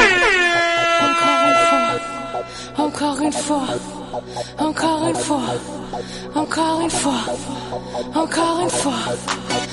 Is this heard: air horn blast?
yes